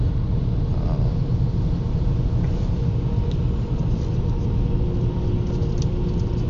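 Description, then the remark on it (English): Steady, heavy road rumble from inside a moving car in thick truck traffic, with a dense low-frequency drone of trucks and occasional faint clicks as pebbles from one truck shower the car, continuous throughout with no talking. “Truck traffic is pretty thick today, and I'm getting showered by pebbles by this one truck.”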